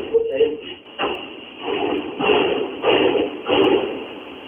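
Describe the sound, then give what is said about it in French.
Soldiers bang on the doors of Radio Globo in Honduras during a military assault on the station: heavy, irregular banging, about four or five loud, booming blows spaced a second or so apart, over a steady noisy background with muffled voices. “Ils tapent dans les portes.”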